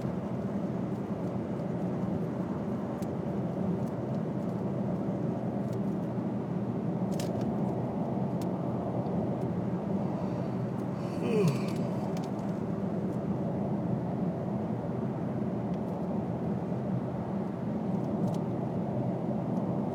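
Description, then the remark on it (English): A steady, loud low rumble of road and engine noise from inside a moving car crossing the new Bay Bridge after a trip to Oakland, constant for the whole stretch, with a few faint brief clicks and a soft squeak partway through. “This might be the first time I've been over the new Bay Bridge here.”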